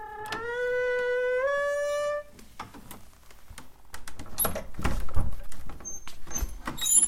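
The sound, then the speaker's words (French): A home's door creaks open with a long, rising squeal, then is shut with a cluster of clicks and soft thumps as the latch catches. No one speaks. “Un bruit de la porte.”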